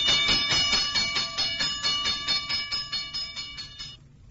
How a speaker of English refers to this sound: But the signal warning of a fire did not always sound like that.